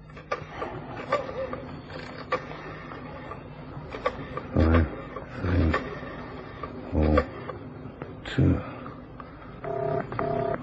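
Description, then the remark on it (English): A telephone number is dialed: a series of short mechanical clicks and whirring pulses, with several louder bursts spaced irregularly. “I've got a phone number somewhere in my diary here.”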